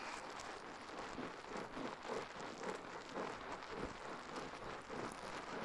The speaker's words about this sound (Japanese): 泡がはじける音、とっても癒されますよね。